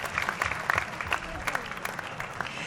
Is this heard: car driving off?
no